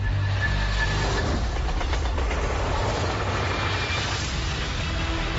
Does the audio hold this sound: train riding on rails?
yes